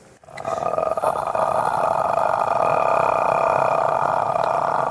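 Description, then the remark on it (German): A person makes a sustained, low rumbling growl in the throat as a vocal fold flutter voice exercise, a steady rough vocal flutter held for several seconds without pause, fairly loud. “Einfach nur knurren. Versuch mal ein bisschen schneller zu werden und ein bisschen langsamer zu werden.”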